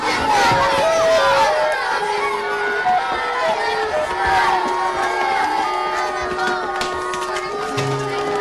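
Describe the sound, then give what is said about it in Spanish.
A crowd of schoolchildren run out after their teacher dismisses them, shouting and yelling at once. Many overlapping high voices make a loud, steady commotion that barely lets up for the whole stretch. “Todos los niños salen corriendo, menos Moncho, que queda cabizbajo.”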